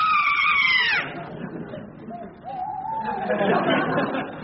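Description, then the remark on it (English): Car tires screech loudly for about a second, the squeal sliding down in pitch as the car stops, followed by a low rumble and muffled, excited voices. “Quick! Let's... Stop the car.”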